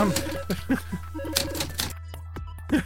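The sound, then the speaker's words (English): Typewriter keys clack in quick, uneven bursts, fairly loud, each strike sharp and percussive over a steady low hum, with a brief pause before a final couple of strikes. “I feel violated by that typewriter now.”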